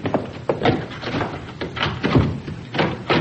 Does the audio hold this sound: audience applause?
no